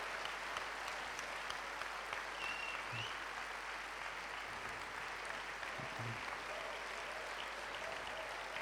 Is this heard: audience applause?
yes